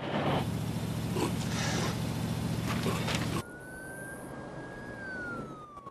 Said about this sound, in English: Orville's truck travels down a long, empty road through barren landscape. Lynn's at the wheel, with Philo and Clyde beside her.